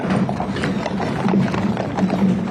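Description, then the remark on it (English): Steady clip-clop of horse hooves on pavement, a horse-drawn caisson carrying former President Jimmy Carter's casket rolling through the streets of Washington, D.C. to the Capitol at a measured walking pace, with a continuous low rumble of wheels and outdoor ambience underneath. “A horse-drawn caisson carrying former President Jimmy Carter's casket has just arrived at the Capitol after a trek through the streets of Washington, D.C.”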